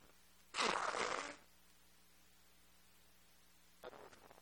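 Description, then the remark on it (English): A loud, harsh, breathy honk of nose blowing lasting under a second, then a low hum and, near the end, a second shorter and softer blow. No one speaks. “Hold on, I got to blow my nose again.”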